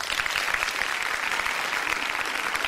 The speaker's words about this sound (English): Let's give Sean Williams a round of applause.